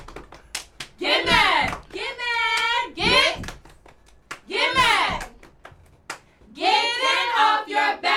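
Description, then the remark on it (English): Young cheerleaders shout a rhythmic cheer in short, punchy bursts, punctuated by sharp hand claps keeping the beat, loud. “Okay, I need a cheer. I just need a cheer.”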